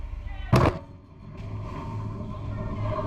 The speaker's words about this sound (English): Is it a suicide ship? Or is it a ship that they wanted to test for its solidity with respect to the explosion? I don't know, but it's a massive explosion. Let's have a look.